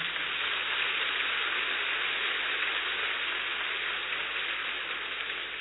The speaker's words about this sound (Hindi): अभी हम बहुत अच्छी तरह से इसका अनुभव करने जा रहे हैं, इसलिए एक बार जोरदार अच्छी तरह से तालियां बजाएंगे।